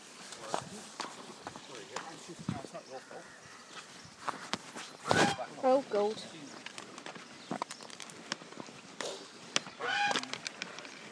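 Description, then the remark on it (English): Geese honk in a few short, loud bursts, one cluster midway and another near the end, over outdoor bustle with footsteps and people talking in the background. “I don't like geese.”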